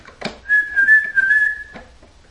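A person whistles a short, steady tune up close, the clear pitch wavering slightly for about a second and a half, with a few soft clicks and breaths around it.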